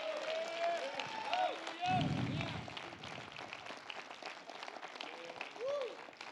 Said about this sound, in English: You should clap your hands like he's a healer.